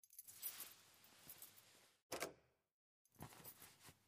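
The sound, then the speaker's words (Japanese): Metallic clinks and jangling as keys are worked in a door lock to lock it, with a sharp click partway through and another burst of rattling after a short pause. “うん、ああ、鍵閉めるよ。”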